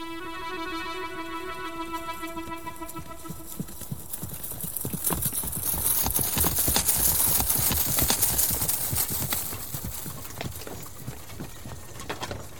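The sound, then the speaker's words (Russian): A sustained, buzzy tone fades out as the hooves of horses pulling a chariot start clip-clopping in a quick, steady rhythm, growing louder and denser midway before easing slightly toward the end, as a padishah and his wife ride out into the wide steppe. “И вот однажды приказал он запрячь лучших своих коней в лучшую колесницу, и поехали они вдвоем с женой в широкую степь развеять тоску по сыновьям.”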